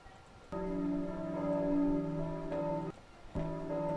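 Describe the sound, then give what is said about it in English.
Church bells toll in a slow series of strikes, each rich, ringing tone sustaining and overlapping the next. Loud, with no voices. “Church bell sound. Let's see if this is accurate quick.”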